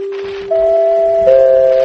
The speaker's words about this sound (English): You know that familiar NBC signature, the three chimes that ring at the end of every network program on NBC. But have you heard this one? Have you heard that extra chime, the fourth chime? The fourth chime rings only when news is breaking of world